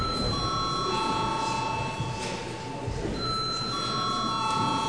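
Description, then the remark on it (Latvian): A chamber bell rings continuously for about five seconds in the Latvian parliament (Saeima) during an extraordinary session, called before deputies register attendance: a steady, loud, unbroken electric tone over a faint murmur of room noise. “Paldies, lūdzu zvanu.”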